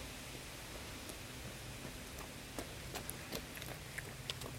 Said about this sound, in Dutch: Je hoort mensen voorbij rennen. Er komt ook een fietser langs.